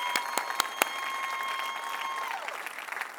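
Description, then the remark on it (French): An audience breaks into steady applause for stress, a dense wash of clapping with a few sharper claps at the start. A thin sustained tone rings underneath and slides downward near the end. “La première fois qu'on applaudit pour stress.”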